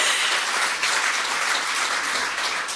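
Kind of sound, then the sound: crowd, applause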